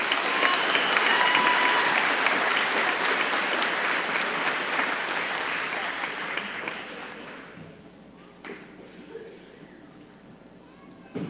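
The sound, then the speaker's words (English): A crowd applauds the valedictorians in a loud, dense wash of clapping that holds steady for several seconds, then thins out and fades to scattered claps and quiet. “Can we give one more round of applause for our valedictorians?”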